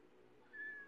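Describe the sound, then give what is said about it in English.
A single short meow from a ragdoll cat rises midway through, a thin tonal mew at moderate-to-faint volume over a quiet background, with no talking. “Yeah, I can hear my cat right now.”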